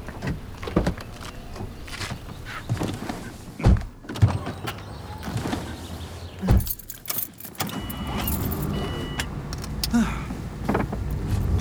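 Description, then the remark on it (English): People climb into a car with rustling movement and a jingle of keys, then two solid door slams thud shut a few seconds apart, leaving a muffled interior hush. “In the car? Okay.”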